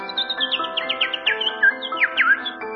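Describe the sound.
A person imitates a small bird, producing a quick, continuous run of high, sweeping chirps and tweets for about three seconds, fairly loud, with no talking.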